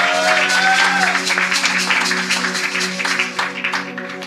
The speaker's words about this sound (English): Hallelujah. I believe it's a good place to clap your hands.